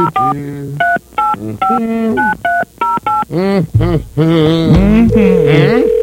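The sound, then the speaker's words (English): A quick run of touch-tone telephone dialing beeps, loud, followed by a steady ringing tone that mixes with voice-like sounds, as a call is placed to a phone booth at the Dairy Queen on Old Forest Road in Lynchburg, Virginia. “Oh, there's the first ring.”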